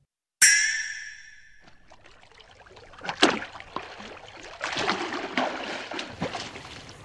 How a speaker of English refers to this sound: Here he comes. I hope he enjoyed his swim